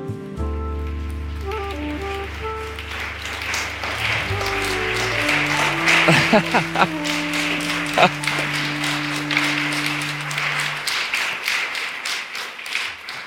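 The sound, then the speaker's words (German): A crowd applauds warmly, welcoming the guests Nils Strunk. The dense, steady clapping swells and continues for several seconds, with a sustained musical chord of low tones underneath at first. “Vielen Dank für diesen herzlichen Empfang.”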